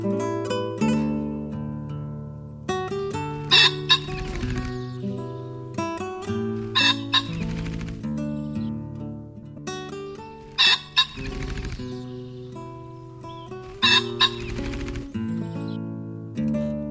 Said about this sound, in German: Das war der Fasan.